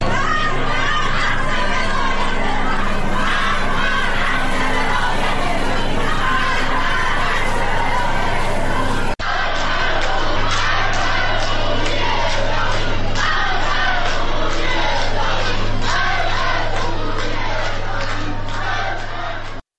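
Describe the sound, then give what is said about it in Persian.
A loud crowd of protesters at a metro station chants "death to the dictator" in unison, many voices shouting together with a steady rhythmic beat, continuing after an abrupt cut midway through. “بر اساس ویدیوهای انتشار یافته در شبکه‌های اجتماعی، در این تجمع اعتراضی شعار مرگ بر دیکتاتور سر داده شد.”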